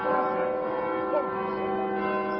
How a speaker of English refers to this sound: As the bells of the Gloucester Cathedral in southwest England chimed to the U.S. national anthem on the 4th of July, four American troops watched on in a brief ceremony outside.